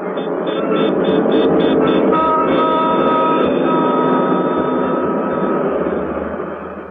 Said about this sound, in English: Dusty clatter of subways.